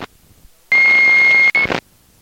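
A loud, steady electronic beep from a two-way radio lasting about a second, with a brief dropout near the end, cutting through a burst of radio static before falling silent.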